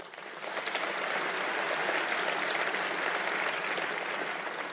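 An audience claps steadily throughout, a dense, even wash of many hands with no voices standing out, holding a constant moderate level for the whole stretch.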